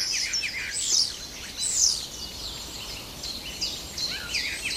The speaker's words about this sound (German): Jedenfalls, wenn ihr nicht weit wegkommt, lauscht dem Star, der kann euch viele, viele Vogelstimmen beibringen.